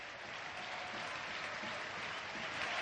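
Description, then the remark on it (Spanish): Steady applause from the few Villarreal fans still in the stadium stands after a match, applauding the players, a dense wash of clapping filling the whole stretch with no break or swell. “los del Villarreal se quedan aún aplaudiéndoles, los pocos aficionados del Villarreal que aún se mantienen en las gradas”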